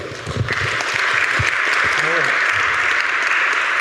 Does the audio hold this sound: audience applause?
yes